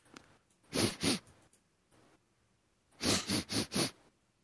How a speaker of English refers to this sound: So you're sniffling in case I didn't come through. Do you smell that? No scent. You can't smell barbecue.